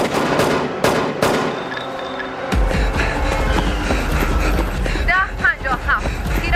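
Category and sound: impact, gunshots fired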